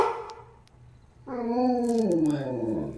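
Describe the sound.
After a brief quiet stretch, a person loudly imitates a dog, letting out one long, drawn-out bark that stretches into a howl and slides downward in pitch.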